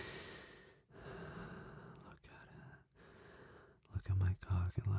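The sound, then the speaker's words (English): Heavy breathing in slow, deep cycles, each long breath separated by brief pauses, growing louder and more ragged with sharp gasps toward the end. “Look how heavy you're breathing.”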